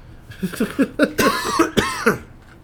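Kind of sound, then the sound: human body sound, coughing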